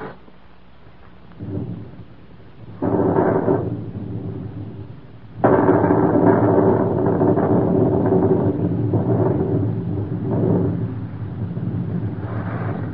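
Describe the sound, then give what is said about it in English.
A thunderstorm with steady rain that has been going for three hours, broken by several deep rolling thunder rumbles that swell loudly and fade, one sharp crash building into a long roar. No voices are heard. “Looks like a storm coming up, don't it?”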